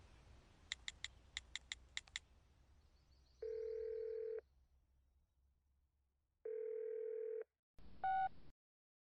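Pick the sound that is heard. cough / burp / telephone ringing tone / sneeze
telephone ringing tone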